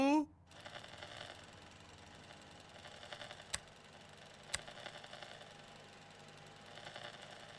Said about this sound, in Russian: Ну ладно, я запускаю микроволновку.